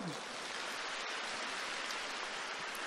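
Dense, steady applause from a crowd, a continuous crackling wash of many hands clapping at even loudness for about three seconds, with no voices standing out.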